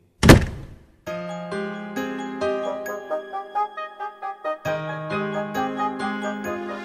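A single heavy thud of a door being shut as someone goes out lands right at the start, then sustained melodic music with a soft pulsing rhythm takes over and fills the rest.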